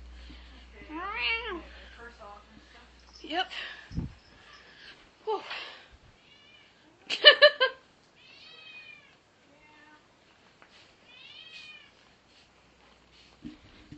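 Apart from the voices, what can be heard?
cat meowing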